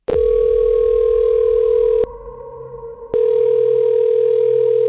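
A loud, steady telephone dial tone hums for about two seconds, cuts out for roughly a second, then returns and holds to the end. No one speaks.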